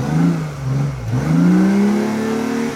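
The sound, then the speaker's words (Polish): A sports car that had been running on its electric motor is started on its combustion engine, which revs up, dips briefly, then climbs again into a steady, rising growl, fairly loud with no talking. “I tak jest cichy jak na taki samochód. Jest cichy jak na taki sportowy samochód, dlatego tu największe wrażenie robi jednak, kiedy się włączy ten elektryczny, kiedy jest bardzo cicho w samochodzie.”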